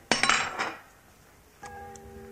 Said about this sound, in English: Sounds you don't hear very often nowadays. Remember Mammy putting on the fire on the old range?